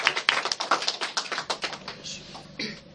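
A small audience applauds: a quick burst of many overlapping, irregular claps that thin out and fade after about two seconds, with no talking.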